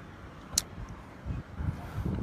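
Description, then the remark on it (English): Low engine rumble from police cars pulling up outside a church, swelling and easing over a couple of seconds, with a single sharp click early on and no one speaking. “It's more police pulling up.”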